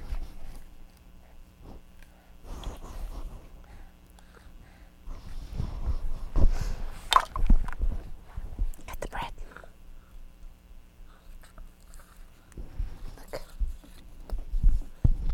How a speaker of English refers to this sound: What are you doing? Huh? Are you chewing on the bread, huh? Chew, chew, chew. Is it good?